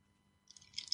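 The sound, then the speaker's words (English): After a moment of near silence, a sip of grapefruit juice: soft, wet slurping and mouth noises that build over the second half, with no talking. “Now, last week, hold on one moment while I take a sip of grapefruit juice because I'm responding to you, the listeners.”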